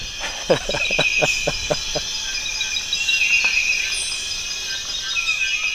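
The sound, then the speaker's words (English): A dense, steady chorus of buzzing insects fills a rainforest, with scattered high bird chirps and whistles on top and a quick run of sharp clicking calls near the start. No one speaks. “Meanwhile, there are all these insects and birds and everything else.”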